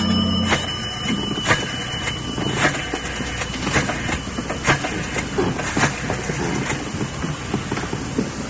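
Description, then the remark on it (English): Steady rumbling train depot ambience with a low idling train engine, broken by frequent clanks and metallic knocks, busy, with no voices. “I'm calling from down at the train depot.”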